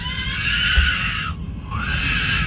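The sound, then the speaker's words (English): A child lets out a loud, shrill, robotic-sounding scream in two long sustained bursts separated by a brief break, the high wavering pitch resembling the R2-D2 droid scream from Star Wars. No one talks. “And it reminded him of the R2-D2 scream.”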